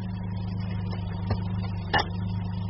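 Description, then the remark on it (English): A car engine idles with a steady low rumble as the car breaks down again, broken by a couple of brief clunks or sputters partway through, while the motor keeps running with no voices. “Why have you stopped? Well, this car has broken down again.”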